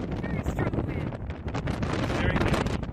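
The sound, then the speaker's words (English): Steady gusty wind buffets the microphone at the Red Rocks clifftop lookout above Kangaroo Valley, about 2 hours south of Sydney, on a warm, windy winter's day: a broad continuous rumble with fluttering bursts, fairly loud throughout with no clear pauses. “It's an incredible view on a warm and windy winter's day.”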